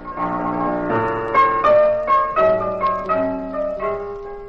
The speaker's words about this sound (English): Pat and I were our regular table at the Pink Elephant, in a small back room reserved for their extra special guests. But the door was open so we could hear Sammy Page at the piano.